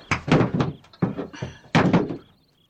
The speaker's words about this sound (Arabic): كلا، لا فائدة. إذن سأكسر الباب.